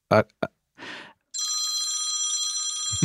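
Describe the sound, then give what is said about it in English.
A bright, sustained electronic ringing tone from a computer, with a shimmering, warbling texture, plays steadily for a couple of seconds, fairly loud, after brief speech sounds and a breathy noise. “you have a phone ringing? I don't, that, it's my stupid computer.”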